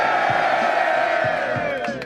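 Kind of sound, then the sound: crowd, crowd cheering and shouting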